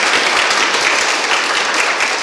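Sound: audience applauding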